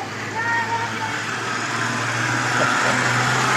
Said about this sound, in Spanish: Siente el ruido de los autos, ¿no? Y cantando, mirando los autos que pasan.